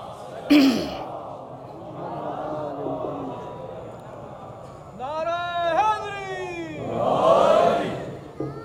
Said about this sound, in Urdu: دیکھیے اتنے ڈھیلے ڈھیلے نعرے مت لگائے, اگر نعرہ لگائیں تو پوری آب و تاب کے ساتھ لگائیں, نعرے حیدری میں حیدری جھلک بھی تو نظر آئے نا.